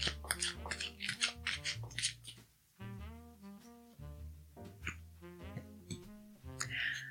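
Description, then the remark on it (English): Crisp, rapid papery flutters of a deck of affirmation cards being shuffled, with a soft tonal music bed playing underneath throughout. “Okay, so I'm going to shuffle these cards and see what we need to affirm today.”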